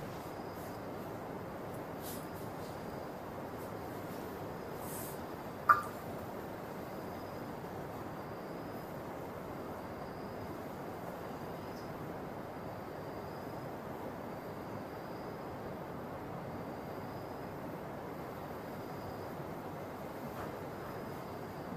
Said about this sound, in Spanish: Solo estén atentos del río que suena. Su respiración háganla dulce y tranquila y escuchen el río mientras fluye aquí a un lado de nosotros. Lo escuchamos.